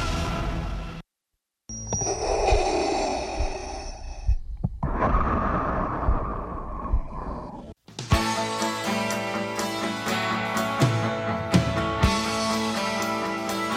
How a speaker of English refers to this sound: I love that a guy breathing in a mask can have such iconic audio value. Isn't that amazing? That's the first one in Revenge of the Sith. That's the first time that Vader breathes, if you're wondering.